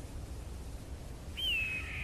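A single high, thin cry of an eagle flying over the desert under a blue sky, a drawn-out whistling screech that slides slightly downward, heard over a steady low rush of wind-like background noise.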